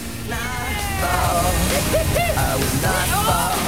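Ocean water sloshes and splashes around surfboards as two people surf back in, one standing on his board, in a steady, loud wash of surf, with voices calling out over the rushing water.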